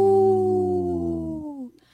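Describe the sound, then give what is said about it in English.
A man on Native Roots Radio imitates a deep wolf howl: one long, loud, sustained note that slides slowly downward in pitch for nearly two seconds before trailing off, with no other talking. “I tried a deep howl that time.”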